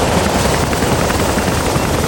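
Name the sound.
helicopter approaching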